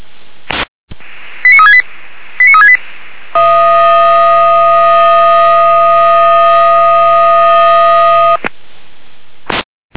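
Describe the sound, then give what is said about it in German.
A Weimarer Land emergency dispatch radio channel carries alerting tones: two short bursts of stepped beeps, then a long steady multi-tone blare lasting about five seconds, framed by clicks and bursts of static. “Leid für der Weimarer Land mit Alarmierung.”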